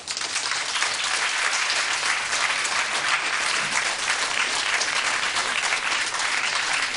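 crowd, audience applause

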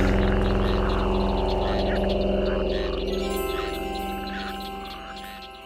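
animal, frogs croaking

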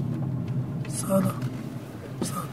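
vehicle, car driving

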